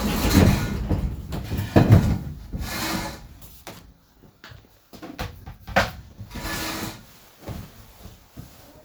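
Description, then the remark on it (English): A door is opened with wooden clunks and a scraping rattle, followed by quieter shuffling and a few soft knocks. No one speaks. “Oh, they can open the door.”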